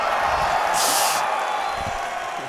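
An audience of thousands at Talentland España applauds loudly as the speaker's mother stands on stage, a dense, steady wash of clapping mixed with cheers and a brief sharp whoop near the start, holding strong for the full couple of seconds.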